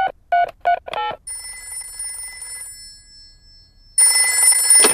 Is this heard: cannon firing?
no